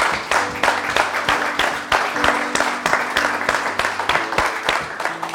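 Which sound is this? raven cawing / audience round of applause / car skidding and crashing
audience round of applause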